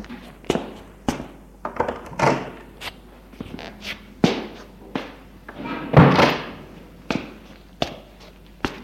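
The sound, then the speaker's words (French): A door on the first floor is opened and shut again and again, producing a series of sharp, loud bangs and thuds at irregular intervals, with brief creaks and rattles between the slams and no voices. “Ils suivent un couloir, le fait monter des escaliers de bois ciré, et au premier étage ouvre une porte et entre.”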